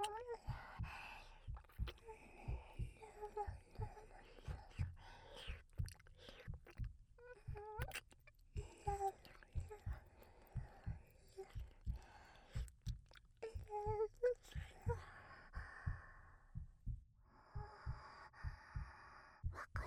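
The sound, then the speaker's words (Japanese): A muffled heartbeat, as if heard with an ear pressed to someone's back: steady low thumps repeating about once a second, with faint indistinct vocal sounds drifting over the top. “心臓の音、背中から響いているのは”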